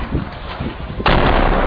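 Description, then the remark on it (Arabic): A few dull thudding rumbles, then a sudden loud artillery shelling blast on the Baba Amr district erupts into a harsh, sustained roar that fills the rest of the moment. “مشاهد الكرام، نشاهد قصف عنيف على حي باب عمرو، وهذا هو اليوم يعني 25 للقصف على ذلك الحي الذي تقريبا طمست 80% من معالمه.”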